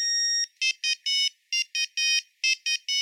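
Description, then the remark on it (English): A simple monophonic mobile phone ringtone plays a quick, bright electronic melody of short and longer beeping notes in an uneven rhythm, clear with no voices. “The first ringtones were monophonic, meaning that they were very simple approximations of the song they were meant to represent.”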